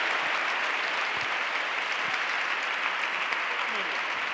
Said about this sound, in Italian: Un applauso, eccolo. Riscaldiamo un pochettino l'aria.